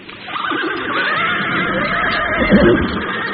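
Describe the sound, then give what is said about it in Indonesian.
A horse neighs loudly, one long wavering whinny that carries for a few seconds with no one speaking, as riders sit on their horses' backs. “Sebentar kemudian, mereka sudah duduk di atas punggung kuda masing-masing.”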